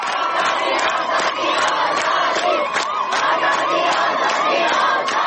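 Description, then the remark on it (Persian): A large crowd of students in Najafabad, Isfahan, Iran chants protest slogans about freedom in unison, a dense, steady roar of many voices with rhythmic bursts rising throughout, loud and continuous with no single speaker standing out. “دانشجویان نجف آباد اصفهان روسری‌ها در باد آزادی را خواندند.”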